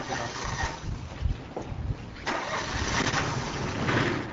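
A small ATV engine sputters and cranks to life, then settles into a steady, rough idle with a raspy mid-range drone, loud throughout. The ATV is carrying a lighthouse lens on the ride to the lighthouse on Rock Island.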